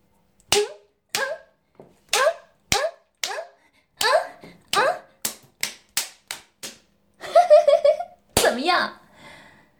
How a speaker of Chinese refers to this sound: 来，现在好好数着，看主人，我抽你多少耳光，能让你彻底兴奋起来？